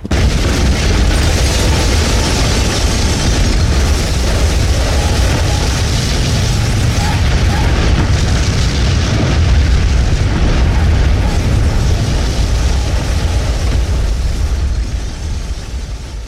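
A tower explodes with a huge boom, heard for thirty miles around, rolling into a loud, sustained deep rumbling roar that holds steady for many seconds before easing off slightly at the end.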